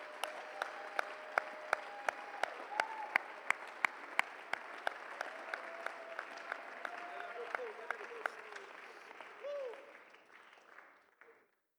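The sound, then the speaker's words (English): A church audience claps hands during a sermon, answering the preacher's call to clap, in a steady, unison rhythm of sharp beats over a murmuring crowd and sustained voices, the clapping loosening before everything fades out at the end. “Come on, somebody, clap your hands right now.”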